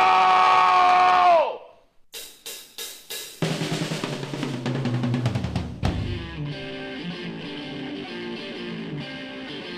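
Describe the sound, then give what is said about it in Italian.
A loud, sustained wild yell given as a live on-air greeting, dropping off after a second, followed by a run of sharp drum hits and then busy, distorted music. “Allora in diretta io saluto con un urlo bestiale le punte di 100!”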